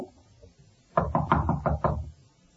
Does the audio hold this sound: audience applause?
no